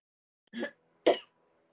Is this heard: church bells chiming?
no